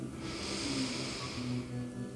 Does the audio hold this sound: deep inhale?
yes